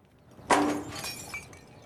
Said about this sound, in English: Edie leans out, knocking over a pot plant.